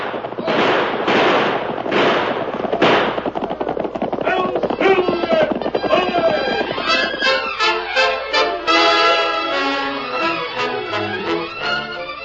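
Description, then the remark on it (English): Rapid volleys of gunshots from men shooting at fleeing riders in a Lone Ranger story crack one after another, sharp and loud, thinning into scattered shots later on, with shouting voices mixed in underneath. “Keep on shooting!”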